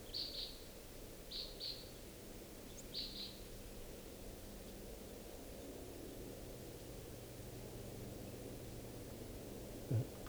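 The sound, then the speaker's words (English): Red crossbill type 5 flight calls from a single bird perched above a camp: three quick pairs of sharp, high chips in the first few seconds, rising over steady background hiss, followed by several seconds of hiss alone. “Recording, I think I hear type 5 calls.”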